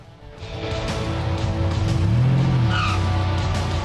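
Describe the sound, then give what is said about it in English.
Two people climb into a car and it speeds off: the engine revs hard and tires squeal, loud, with the rising whine of the motor and screech lasting a few seconds. “They clamber in and speed off.”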